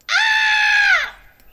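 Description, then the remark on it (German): A single loud, high-pitched scream held steadily for about a second, then dropping in pitch as it trails off into quiet. “Cool, kannst du schreien?”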